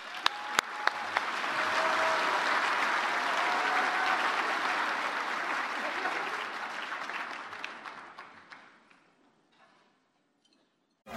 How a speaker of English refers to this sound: Big round of applause for Katie Kleibert.